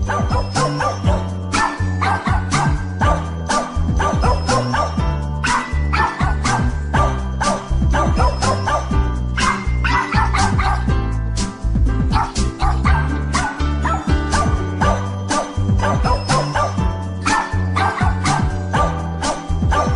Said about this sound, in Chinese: 哎，这首音乐好好听哦，是什么音乐啊？好像是狗狗在唱歌哎。